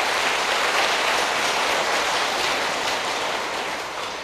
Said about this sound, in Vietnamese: Thì quý vị hãy cho một tràng pháo tay thật lớn rồi tán dương chung.